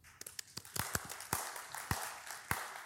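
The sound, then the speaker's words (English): The One Tribe church audience applauds itself for about three seconds: a dense bed of scattered clapping with a few sharp, louder claps standing out irregularly. The applause stays fairly soft and steady, with no voices. “And so I'd love you to give yourselves a small round of applause.”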